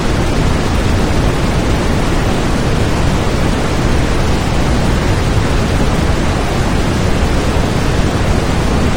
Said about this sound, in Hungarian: És a távoli vízesések zúgása.